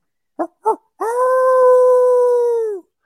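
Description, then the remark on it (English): Two short yipping barks are followed by a long, steady howl lasting nearly two seconds, a loud coyote howl blown on a howler call that holds its pitch before dropping off at the end, used while it is still dark to get a bird to respond. “If I have nothing going and it's still gray light, it's still dark, you know, it's still pitch black dark, I'm going to be hammering the coyote howler.”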